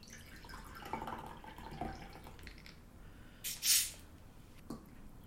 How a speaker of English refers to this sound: But you want to add a lot, quite a lot, I'd say probably 3/4 full glass of this mix and then top it off with sparkling water just because it is pretty strong.